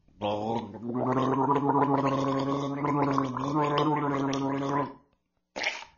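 A man gargles a mix of fresh water, sea water and lime juice from a coconut shell, steadily for about five seconds, a low, bubbling, voiced rattle with a wavering pitch, then stops and gives a short exhale or spit after a brief pause.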